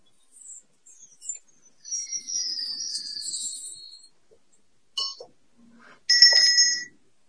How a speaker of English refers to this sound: So you got a shop doorbell.